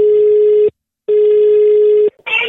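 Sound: telephone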